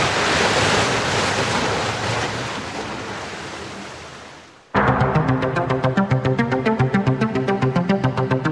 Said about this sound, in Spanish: Mientras, las olas siguen castigando incesantes los roqueríos bajo el Muelle de las Almas.